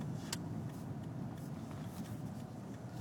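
A steady, low rumble of traffic with idling car engines, continuous and fairly loud, as many cars sit backed up at an intersection, heard from a gas station; a brief hiss cuts through near the start.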